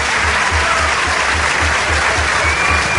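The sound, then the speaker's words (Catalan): A large stadium crowd applauds steadily, a dense, continuous wash of clapping with a low rumble underneath, sustained throughout: an ovation for Girona player Tati Castellanos as he is substituted off during a football match. “Quin aplaudiment!”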